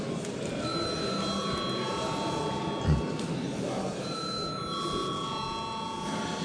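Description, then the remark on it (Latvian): A bell rings continuously for several seconds to call a vote at a plenary sitting of the Latvian parliament (Saeima), a steady, sustained electric-sounding tone with faint background murmur. “Paldies, lūdzu zvanu.”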